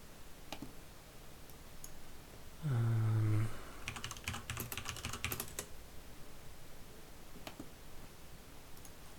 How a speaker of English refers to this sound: I'm just getting all the lyrics open, so give me a bit and listen to my keyboard.